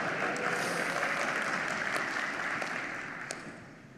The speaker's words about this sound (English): Oh, applause. Thank you.